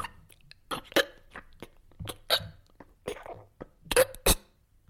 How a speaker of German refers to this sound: Der Husten hört nicht auf.